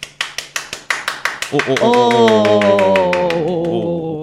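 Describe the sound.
A quick, steady run of about ten sharp claps, then voices break in loudly while the clapping carries on underneath them.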